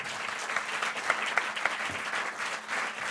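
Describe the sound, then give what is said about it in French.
An audience in a hall claps steadily for the speaker's parents, a dense wash of many hands with a few sharper individual claps standing out, sustained at an even level for a few seconds. “Vous pouvez les applaudir, je crois qu'ils sont dans la salle.”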